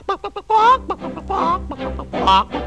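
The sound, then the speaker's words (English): A hen's clucking imitated by a voice: a few quick, clipped clucks followed by longer, rising squawking calls, fairly loud with no other sounds around it. “Live all alone on a farm, and all she has for company are a hen.”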